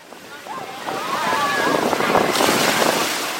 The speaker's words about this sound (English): We're enjoying a beach day at Virginia Beach's oceanfront with family and friends from the Richmond area church on a simmering Saturday afternoon.